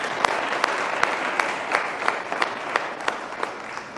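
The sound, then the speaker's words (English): An audience gives another round of applause for a singer who has just performed the Black National Anthem, a dense wash of many hands with sharper individual claps popping out at a fairly regular pace. Sustained and moderately loud, with no voices rising above it. “Can we all please give Ms. Zion another round of applause?”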